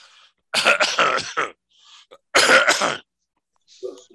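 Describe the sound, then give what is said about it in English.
Two loud, harsh bursts of coughing, each a rough cluster of a few hacking pulses, separated by a short pause, with faint throat sounds and breathing around them. “While I'm coughing, I'm going to go into a new transition here.”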